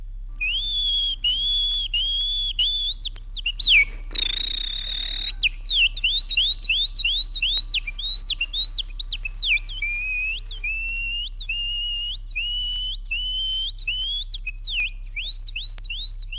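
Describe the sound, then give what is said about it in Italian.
A person whistles an imitation of the song of the nightingales on the hills of Rosazzo: rapid, trilling phrases of bright rising and falling notes, with a brief breathy burst partway through, over a steady low hum. “Contadino vero, egli ruba le note flautate ai rosignoli che sui colli di rosazzo si abbandonano alle loro inebrianti malie canore.”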